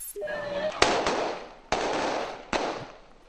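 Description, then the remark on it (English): Haitian police chasing away a crowd that was breaking into a store in Haiti: four loud, sharp bangs ring out at irregular intervals, each leaving a long rumbling decay, over a noisy background with faint voices and a brief whistle-like tone at the start. “The sound there of Haitian police chasing away a crowd that was breaking into a store.”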